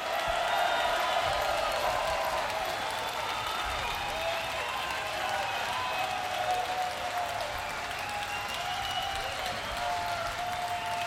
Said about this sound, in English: welcome and a rounding up honorable applause for my for the guitar player here on stage